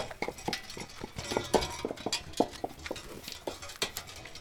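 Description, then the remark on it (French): Horses' hooves clip-clop on a hard road in a steady, uneven rhythm, a run of sharp knocking steps at moderate volume with no voices. “Les chevaux qui étaient faisaient du bruit sur la route.”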